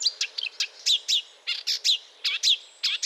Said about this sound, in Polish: Więc łozówka to, co usłyszy na zimowiskach, zabiera ze sobą w pamięci i tutaj chwali się, czego się nauczyła w Afryce. Jeśli chodzi o ptaki, no najczęściej może naśladować wróbla, czy tam mazurka.